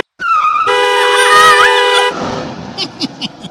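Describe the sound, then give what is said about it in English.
A car horn blares at a pedestrian in the middle of the street in one long, loud honk lasting about two seconds, then cuts off into a rough rumbling tail with a few short clatters. No one speaks. “You left me in the middle of the street with a car coming!”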